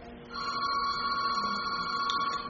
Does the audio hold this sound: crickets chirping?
no